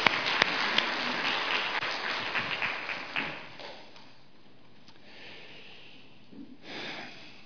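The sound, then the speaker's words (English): A crowd applauds with dense, overlapping clapping that starts strong, thins out and fades after about three seconds, leaving quieter background with a brief rustle near the end. “Let's give them a little applause.”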